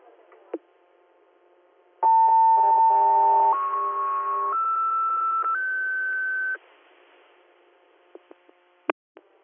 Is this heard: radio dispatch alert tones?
yes